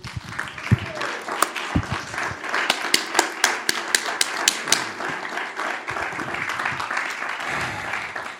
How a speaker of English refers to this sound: In Jesus' name, would you clap to the Lord?